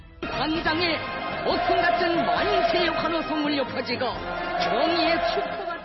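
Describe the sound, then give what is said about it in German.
A large crowd on a square in North Korea cheers and shouts on an autumn October night, marking the Workers' Party founding day, as fireworks light the sky; a loud, continuous roar, many voices rising and falling together without a break for about six seconds. “Jubelschreie hallen über den Platz und ein prächtiges Feuerwerk erstrahlt am herbstlichen Oktobernachthimmel.”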